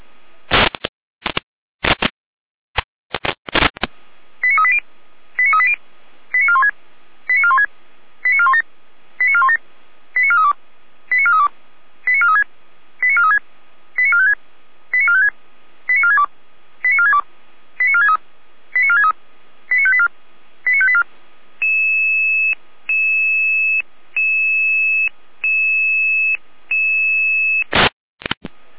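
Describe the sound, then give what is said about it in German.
Radio alerting test call tones for Landkreis Seifeld-Rudelstadt from the Leitstelle (control centre) in Jena: a few sharp bursts, then a long, evenly spaced series of short warbling beeps, followed by a steady sustained tone and a final burst. No voices. “Proberuf Landkreis Seifeld-Rudelstadt. Ende des Proberufes.”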